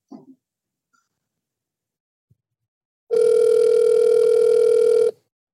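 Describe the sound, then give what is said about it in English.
A single steady electronic phone ringing tone sounds loudly for about two seconds after a near-silent stretch, then cuts off cleanly, as an outgoing call is placed to a woman and waits to connect. “Let me call her.”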